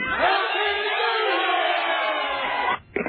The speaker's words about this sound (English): And say one Happy New Year to the guys. Okay. Hey, guys, yell Happy New Year.